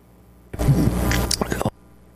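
A single loud, drawn-out burp lasting just over a second, deep and rumbling with a raspy, gravelly texture, cutting off abruptly into near silence.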